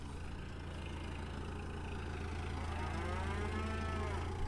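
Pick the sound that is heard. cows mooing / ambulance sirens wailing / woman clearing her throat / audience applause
cows mooing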